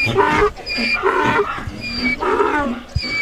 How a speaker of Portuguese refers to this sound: Ao que os burros, cúmplices, respondem.